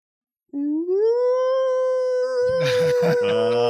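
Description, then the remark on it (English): A voice imitates a dog howling at the top of its lungs: one long, loud howl that slides upward and then holds steady, with some rough, noisy bursts breaking in near the end. “My dog Raider started howling. Howling at the top of her dog lungs.”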